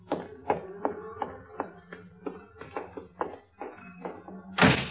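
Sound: door being closed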